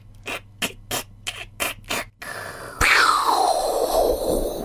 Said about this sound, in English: Suddenly there was a roar, but not a cheering crowd offering their congratulations. The ice made a terrible cracking noise.